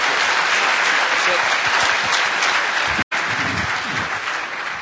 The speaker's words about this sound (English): That's a perfect introduction for your whole talk about social engineering DEF CON. Let's give Richard a round of applause.